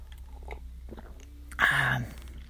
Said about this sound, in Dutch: Ik hoop dat je een kopje koffie erbij hebt genomen. Ik wel. En ik neem nu even een slokje.